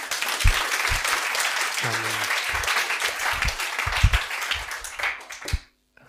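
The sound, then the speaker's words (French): An audience bursts into sustained applause for the next speaker before he begins his message, a dense wash of many hands clapping at steady loudness for about five seconds before it abruptly stops. “On peut juste l'applaudir avant qu'il commence.”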